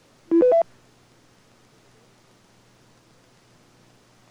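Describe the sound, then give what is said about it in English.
A rapid burst of three short touch-tone dialing beeps, each a step higher in pitch, sounds from a radio autodialer dialing autodial code 34, followed by several seconds of faint steady hiss. “Autodial 34.”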